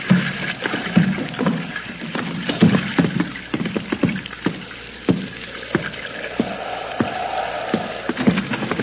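A rowboat moves through water, with repeated wooden knocks of oars and soft splashing in an uneven rhythm, moderately loud, with no voices.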